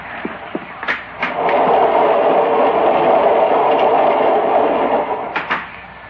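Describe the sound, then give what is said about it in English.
A steady, loud rumble of a moving train on rails fills most of the stretch, framed by a few sharp clicks and knocks at the start and end, with no one speaking. “They may have to stop the train and let me go around outside.”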